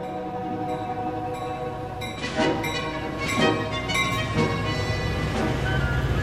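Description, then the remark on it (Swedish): A train rolls slowly into the railway station of Syracuse on 28 March 1957, its steady rumble and droning hum broken by a few loud, irregular clanks and rattles from the cars. No one speaks. “Syrakusas stora gula järnvägsbyggnad syns tydligt när Åke Viking står i tågkupén och spanar mot stationen där han ska av”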